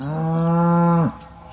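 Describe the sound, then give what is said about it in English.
A single long, loud cow moo, steady, holding for about a second before dropping off abruptly into quiet. “Over the years, humans have settled just about everywhere and brought with them cows.”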